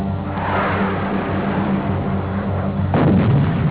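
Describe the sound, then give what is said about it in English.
Heavy incoming rocket and mortar fire from NVA and Viet Cong forces rumbles continuously, dense low booms overlapping into a steady roar, with a sharper, louder blast near the end. No voices are heard. “and day and night, the rockets and mortars, I mean, you're just constantly coming in.”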